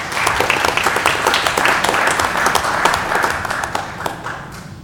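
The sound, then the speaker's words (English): A crowd applauds steadily for an honored student, many hands clapping in a dense, crackling wash that holds strong for several seconds before tapering off slightly at the end. “I'd appreciate you giving her a round of applause.”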